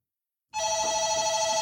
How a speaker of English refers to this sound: Marilyn and I have been talking for about an hour and a half when the front desk phones.